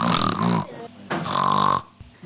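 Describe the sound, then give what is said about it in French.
A voice imitates a pig's oink, two loud, drawn-out nasal grunts separated by a short pause, with no other sounds around. “Non, Georges. Dit la maman de Georges. Les cochons font.”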